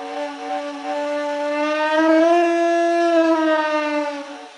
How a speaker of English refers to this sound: It kind of looks like that, hooked up to a big air tank. So I'm quite happy because it has the pitch of a human, but then it's still a roar. You can hear the vibration of it's like an animal's voice.